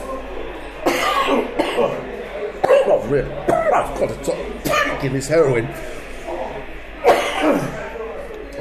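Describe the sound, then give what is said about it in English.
Several sharp coughs and throat clearing break up a man's speech, arriving as loud, rough bursts spaced a couple of seconds apart. “Funny thing is, I didn't cough at all until I put this machine on.”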